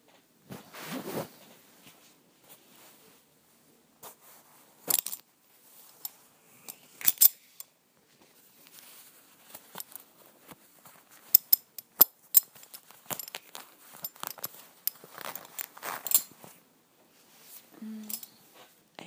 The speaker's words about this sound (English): Always love unbuckling your belt and pulling down the zipper. It's like unwrapping a present.